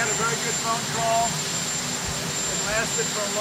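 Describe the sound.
A loud, steady jet engine roar with a piercing high whine fills the whole recording, as President Trump answers press questions on a Wednesday afternoon before flying to North Dakota; faint voices talk indistinctly underneath the noise.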